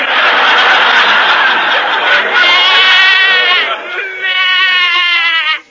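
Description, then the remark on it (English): A goat bleats loudly in two long, quavering cries, the first rising out of a rough breathy start and the second following after a brief dip. “Don't tell me John's other wife has a goat.”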